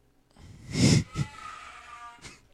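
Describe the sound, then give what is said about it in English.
A single loud, explosive sneeze bursts out, followed by a quick softer breath and, a moment later, another faint breathy sniff. No one speaks. “Gesundheit.”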